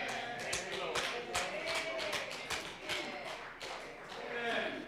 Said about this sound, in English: I got a few claps.